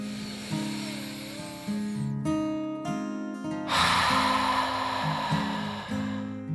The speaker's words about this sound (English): She took a deep dragon breath.